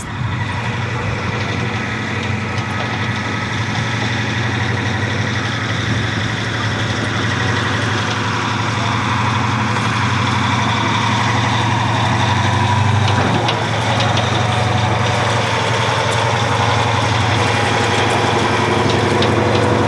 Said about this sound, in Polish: W tej chwili bojowy wóz piechoty Bradley uruchomił silnik i będzie wytaczał się na wschodni brzeg Wisły.